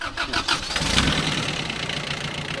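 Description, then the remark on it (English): A tractor engine on a farm cranks over in a few quick rhythmic bursts, then catches and settles into a loud, steady rumble with no one speaking; it is started to pull a crate of Florida grapefruit to the washer. “started up the tractor so they could pull their one crate of Florida grapefruit to the washer.”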